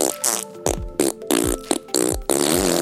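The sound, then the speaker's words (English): A loud series of about six sputtering, buzzy fart noises in quick succession, each swooping downward in pitch, a person imitating a T-Rex fart with their mouth. “This is how I think a T-Rex fart sounds like.”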